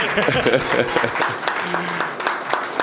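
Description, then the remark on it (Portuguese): Steady applause from an audience, many hands clapping in a dense, continuous patter at moderate loudness, with voices faintly mixed in underneath. “E, Flávio, você precisa dar uma reprimenda nesse teu pessoal, que aplaudiu aqui o Luiz Otávio, não lhe aplaudiu.”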